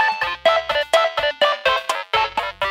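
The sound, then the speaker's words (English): A bright, synthetic disco bag phone ringtone plays a bouncy melody of short repeated notes with a punchy low thump beneath, looping in a steady dance-like rhythm, loud with no talking, for a call from Fox the Leprechaun. “Ooh, it's the disco bag ringtone. Who's ringing me now?”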